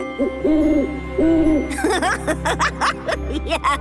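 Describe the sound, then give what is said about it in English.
Two clear, mid-pitched hoots from an owl someone has made, each lasting about half a second, followed by a burst of bright, fluttering, sparkly chirps. “Look, I made an owl.”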